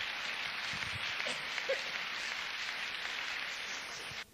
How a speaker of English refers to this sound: Come on, give a clap for Jesus. Taputukset Jeesukselle.